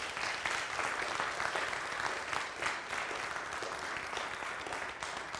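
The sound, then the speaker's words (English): An audience gives one more round of applause, clapping steadily for several seconds, a dense, sustained patter of many hands with no voices standing out above it. “Let's give them one more round of applause.”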